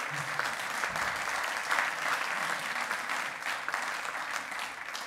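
An audience claps steadily for several seconds, a dense, even wash of many hands with no pauses or talking over it.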